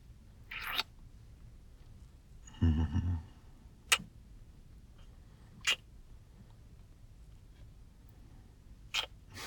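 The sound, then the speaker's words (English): Several short, wet kissing smacks on the back of someone's neck land at irregular intervals, separated by quiet pauses, with a brief low rustle partway through. “Just kissing on the back of your neck.”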